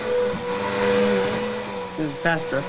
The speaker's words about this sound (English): Faster. She vacuums vigorously. Okay, turn it off.